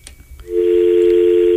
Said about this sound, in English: it looks like we have a caller, so I'm going to pick up the phone and see who it is.